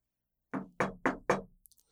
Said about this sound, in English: The housekeeping supervisor knocks on the guest's door with her knuckles.